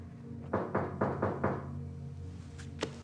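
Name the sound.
knocking on a door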